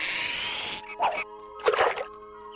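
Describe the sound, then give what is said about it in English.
A fishing line is cast in the online video game Fisherman's Bait, a bass challenge, played with a virtual fishing rod plug-in: a steady high whizzing hiss, then two short, splashy plops into water a moment apart. No one speaks. “anglers approach the shore. With tackle boxes full of bait”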